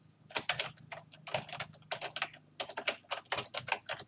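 Rapid keyboard typing as someone writes a message with a product name into a chat: a steady stream of quick, crisp key clicks in uneven bursts, with a brief pause before the clatter resumes. No voices are heard.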